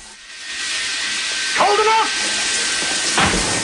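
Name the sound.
shower water running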